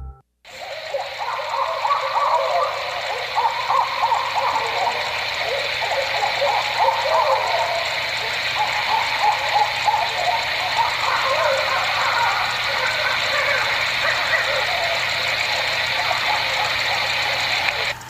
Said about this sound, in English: That was the sound of some barred owls caterwauling.